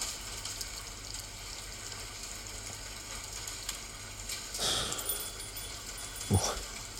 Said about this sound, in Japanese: いい音。夏だな。雨止まないけど。